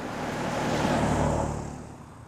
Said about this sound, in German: Fahrende Autos machten ihn immer nervös.